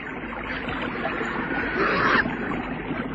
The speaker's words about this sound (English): The little party came out of a small desert and heard the birds, and they heard the sound of water.